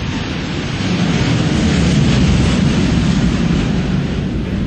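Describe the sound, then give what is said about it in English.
A loud, steady roar of an F-4 Phantom military jet flying overhead, a broad rumbling engine noise that swells slightly at its peak and keeps going without pause; no one speaks. “It's an F4 Phantom.”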